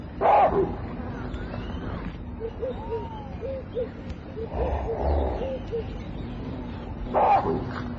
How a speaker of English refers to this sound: The warning coughs of baboon bring the bushmen to a halt. Anxiously, they listen to the sound. There is something not quite right.